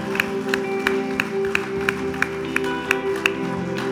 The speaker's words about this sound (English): Come on. Hey, let's give Jesus a clap. It's good.